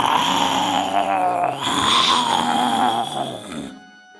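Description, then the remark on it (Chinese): A lion, mouth wide open, gives the loudest roar of its life, rumbling for nearly four seconds, rough and growling with a deep throaty rasp, dipping briefly midway before cutting off into silence. “狮子实在没招了，只好盯着马宾先生的眼睛，张大嘴巴，吼出生平最响亮的声音。”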